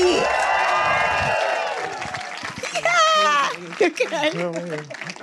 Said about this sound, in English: Sorry, that took a while. No, it's worth waiting for. I didn't realise. We're just warming them up for the right level of cheer for you.